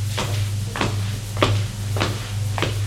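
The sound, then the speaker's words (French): Four sharp wooden knocks and scrapes at a steady pace as emptied drawers and wardrobe doors in an attic are pulled open one after another, over a low constant hum. “Regarde les tiroirs, les armoires. Il n'y a rien, tout a été vidé.”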